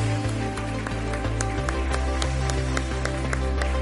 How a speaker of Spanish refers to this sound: Exacto. Antes de nada, un fuerte aplauso